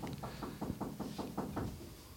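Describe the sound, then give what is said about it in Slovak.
A rapid series of about eight or nine firm knocks on a door, evenly spaced, over a low background hum with no talking. “Niekto nám to búcha.”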